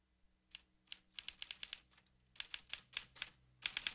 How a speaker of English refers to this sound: Nearby, a figure's working at a typewriter.